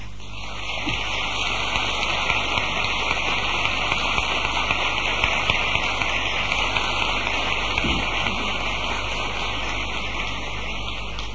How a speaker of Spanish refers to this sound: Y sin darnos cuenta, está el santo entierro en la calle, acompañado de esta sarta de aplausos de todos los que ocupamos la querida plaza de San Gregorio. Aplausos acompañados de la marcha real que la banda música interpreta.